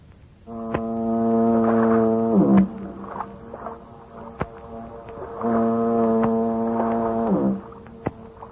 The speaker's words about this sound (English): He gets to dreaming of his hometown, San Francisco, the Golden Gate, and that symphony of foghorns booming across the bay.